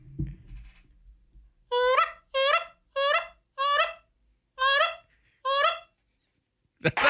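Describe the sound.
A person imitates a goose call with six loud, nasal honks in a steady rhythm, each short and rising, after some quiet rustling at the start.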